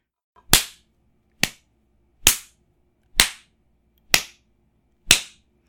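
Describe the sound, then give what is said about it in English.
Six sharp, loud hand slaps spanking a bare bottom, with the person held across the knee. They are evenly spaced about a second apart, each a crisp smack with a quick decay into near silence, with no talking between them. “but there's nothing quite like spanking this round ass of yours.”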